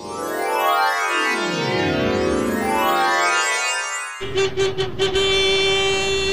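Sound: cars driving past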